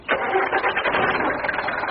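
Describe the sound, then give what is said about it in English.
A taxi's engine cranks and turns over, settling into a steady mid-pitched running rumble, with no one speaking. “Engine.”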